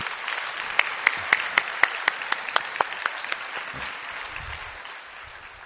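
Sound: audience applauding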